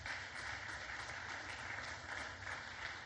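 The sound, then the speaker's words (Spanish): An audience claps hands together as an offering of praise to God, in a steady, continuous burst of applause, many hands blending into a dense wash of sound that holds evenly throughout, with no voices heard. “Dale una ofrenda de palmas al Dios de la gloria.”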